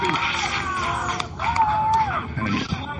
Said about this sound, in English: There's the release, and there's the applause, a successful rise.